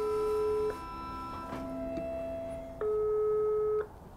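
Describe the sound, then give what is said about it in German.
A telephone ringback tone heard while placing a call to a man's sister: two steady, moderately loud single-pitch beeps about a second long, separated by a longer pause with faint line noise. “Wir rufen die Schwester von Schorsch an.”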